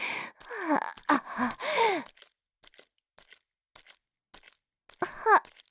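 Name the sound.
heavy breathing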